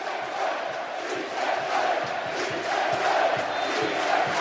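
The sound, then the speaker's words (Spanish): A large stadium crowd at Castalia, the Castellón stadium, chants "sí se puede" loudly in unison after a Castellón goal against Deportivo de la Coruña. It is a dense roar of many voices with a steady rhythmic pulse that holds throughout without pause. “Gritos de sí se puede en Castalia, gana el Castellón, marcó Jesús de Miguel, minuto 24 de la primera parte, Castellón 1, Deportivo de la Coruña 0.”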